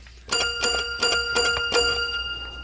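A single black key on a toy piano struck about five times in a steady rhythm, each hit giving a bright, bell-like metallic ring that lingers between strikes, with no voices.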